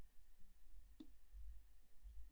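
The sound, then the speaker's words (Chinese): A single short metallic click of car keys being handed over, fairly crisp, heard once against a quiet, faint hum with no talking. “给，这是钥匙，你自己去拿吧。”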